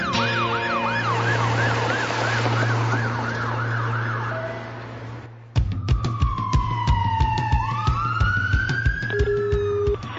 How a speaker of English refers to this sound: It's 8 a.m. and one of Blackpool's six ambulance crews rushes through the early morning traffic.